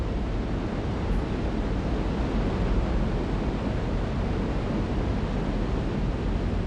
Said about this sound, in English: The Maid of the Mist boat gets people right into the spray of the falls that's kicked up when the water crashes against the rocks.